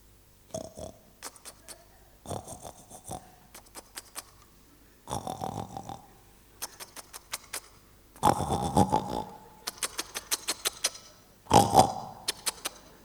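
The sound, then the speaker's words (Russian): A voice imitates a wild boar grunting in bushes while walking through a forest, as told in a hunting story: rough, throaty snorts and grunts in irregular bursts mixed with crackly rustling, growing louder toward the end. “Там вот такой кабан.”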